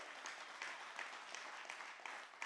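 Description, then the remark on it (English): A crowd claps steadily throughout for the worship team, a dense wash of many hands applauding together at moderate volume, with occasional sharper individual claps standing out and no speech over it. “I love that y'all clap for the worship team”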